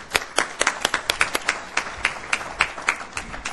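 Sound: audience applause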